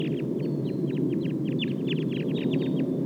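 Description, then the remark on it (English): A wild flock of about 11 birds calls over and over in quick, overlapping high chirps and clucks, steady for the whole stretch over a constant low rumbling background. “Start recording the wild flock now.”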